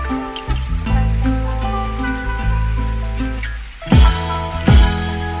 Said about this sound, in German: Schon wieder am Regnen. Boah, Mann, meine Fresse, Alter. Es wird doch mal langsam wieder Zeit für Sommer. Ich kann diesen Regen nicht mehr sehen.